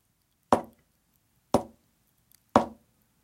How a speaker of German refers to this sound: klopft dreimal leise.